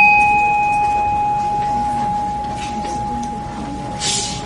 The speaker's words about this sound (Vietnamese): Mà nếu mình tương đồng với nó thì mình đưa như vậy để tiếng chuông nó phát mà người ta nghe lên.